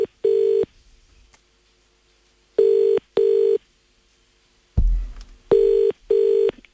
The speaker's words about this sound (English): Take a listen as we phone up